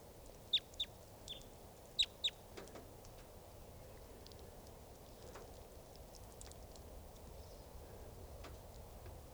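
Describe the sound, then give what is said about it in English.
A flock of about ten wild 'type 2' birds just arriving, calling: four loud, sharp, high-pitched chips in two quick pairs, then fainter scattered calls over a steady low rumble of background noise. “and a flock of about 10 type 2s just came in.”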